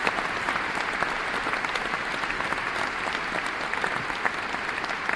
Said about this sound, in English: The musicians, dressed in concert black, emerge from the left side of the stage, and the audience begins to applaud.